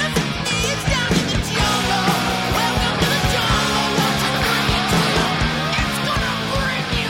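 A loud hard rock song plays steadily, with dense distorted guitars, a driving drum beat and a raw, shouting vocal filling the whole stretch.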